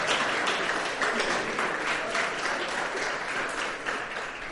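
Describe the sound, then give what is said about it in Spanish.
An audience applauds a volunteer from the crowd, a dense wash of many hands clapping at a fairly even, loud level for several seconds, with faint voices mixed in underneath. “Denle un aplauso porque esto no es fácil.”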